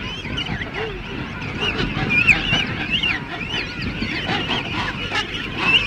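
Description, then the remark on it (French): A dense chorus of king penguin calls from an immense rookery near Cape Ratmanoff on the east coast, about forty kilometres from Port-au-Français, chicks and adults overlapping continuously: warbling, trumpeting adult cries mixed with higher whistling chick voices, loud and steady throughout with a busy colony din underneath. “vers le cap Ratmanoff, sur la côte est, à environ une quarantaine de kilomètres de Port-au-Français, on trouve une immense roquerie de manchots royaux. Écoutez bien ces cris bizarres où la voix des jeunes se distingue nettement de celle des adultes.”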